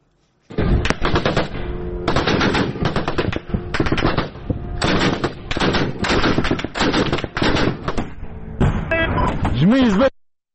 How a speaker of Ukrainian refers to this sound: Вот как взрывается шахет в небе.